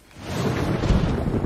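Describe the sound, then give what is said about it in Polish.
A low, rolling rumble of thunder builds and swells over a steady hiss of rain and wind, loud, with no voices. “Poza tą taką burzą i tym takim klimatem niesamowitym.”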